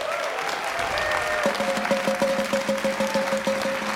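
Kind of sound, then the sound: crowd, audience round of applause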